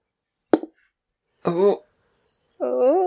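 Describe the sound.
A single sharp clack of new glittery dice rolled for a hammer attack on a kobold, loud and brief with a quick rattling tail, followed by voices making drawn-out vocal sounds.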